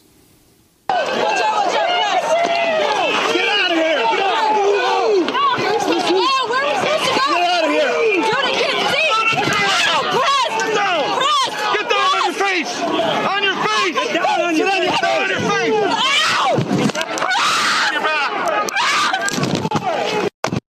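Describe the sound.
A woman screams and cries out over and over as riot police take her down during a police crackdown at the Republican National Convention in St. Paul, amid loud, chaotic shouting and commotion, with several voices overlapping for about twenty seconds.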